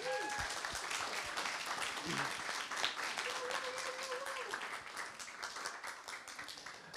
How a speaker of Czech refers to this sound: Prosím, potlesk.